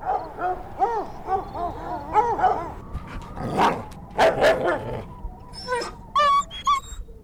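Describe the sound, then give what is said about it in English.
A hunter's hound barks and whines in distress, with repeated yelping barks and drawn-out whimpering cries, loud, followed by higher-pitched yips toward the end. “Mother, we have to help that dog!”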